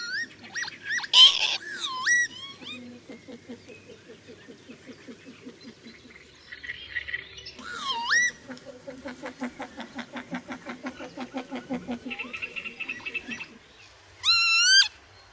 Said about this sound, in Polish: W tle słychać typowy głos samca wykonującego swój charakterystyczny lot tokowy.